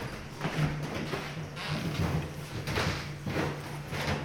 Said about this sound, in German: Die Treppendielen der alten Villa am See des alten Institutshauptsitzes knarren, von dem aus die Anwälte des Bodensees 75 Jahre ihres Amtes walteten.